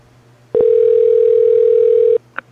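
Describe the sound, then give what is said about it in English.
A loud, steady electronic telephone tone holds for about a second and a half, bracketed by faint clicks, followed by a brief blip as the line connects, on a phone call to a hotel's reservation line in North Scottsdale. No one speaks. “For new Hyatt House North Scottsdale reservations, touch 1.”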